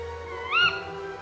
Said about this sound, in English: And the brown owl is big in fiction. That call has inspired the soundtrack of films and television, from Midsummer Murders to Harry Potter.